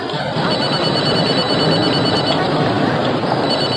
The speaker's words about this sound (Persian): بهتره موبایلتو جواب بدی. مثل این که رئیسته.